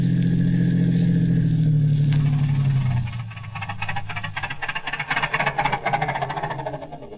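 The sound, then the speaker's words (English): A car engine runs with a steady low drone, then winds down in pitch and cuts out after a few seconds as the car runs out of gas, leaving an irregular crackling, rattling noise. “I'm not stopping. The car's stopping.”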